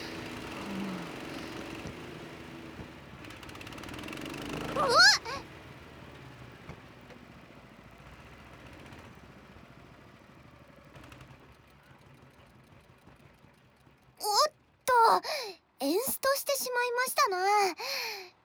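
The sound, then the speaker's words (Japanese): A small recoil-start engine drones steadily and fairly loudly, with a sharp surge around the middle, before a person starts talking over the running motor near the end. “スターターそのプーリーに巻きつけてある紐を強く引き、もう一度エンジンをかけ直しましょう。”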